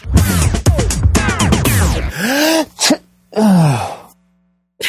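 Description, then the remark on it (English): A voice imitates sneezing: a loud, strained vocal buildup followed by a couple of falling, breathy bursts, each sliding down in pitch, with short pauses between them. “What was that? A sneeze?”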